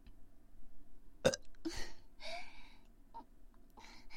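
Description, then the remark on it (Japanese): An abrupt throaty burp pops out, followed by several shorter raspy bursts and breathy gulps spaced over a few seconds, with no talking. “ゲップしながらオナニーしていきます。”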